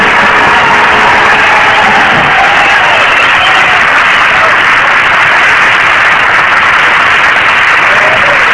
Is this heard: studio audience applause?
yes